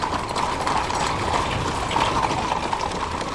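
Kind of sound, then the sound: animal, horse hooves clip-clopping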